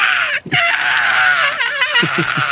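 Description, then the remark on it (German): A voice imitates the frantic, high-pitched screaming of an animal locked in a kennel: one long, loud, wavering shriek with a brief break near the start and a few short guttural pulses toward the end. “Und so, dann schreit er. Aber das sind so Exorzisten-Laute, wenn der in den Zwinger gesperrt ist.”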